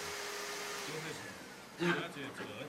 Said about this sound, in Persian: اون جارو برقی هم خاموش کن، الان موقع جارو کشتنه.